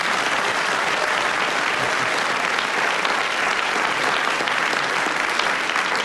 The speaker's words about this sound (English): They clap so loud, it seems as if they rather endorse the idea that you should take Wendy round on a slow boat to China.